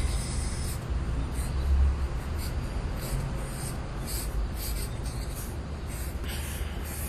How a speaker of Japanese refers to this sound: 今ちょっと紙をですね、縦にしました。